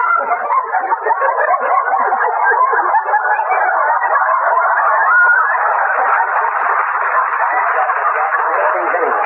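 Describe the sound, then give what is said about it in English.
A dense, continuous din of squawking egg-laying hens fills the whole stretch, loud, with overlapping agitated cries and no pauses or talking. “Playing tag with them squawking egg factories”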